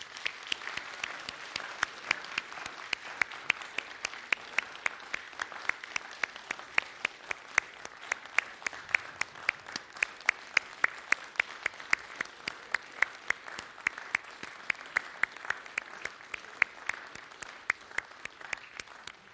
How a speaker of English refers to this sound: And so let's give them a hand of applause and just say thank you. Thank you.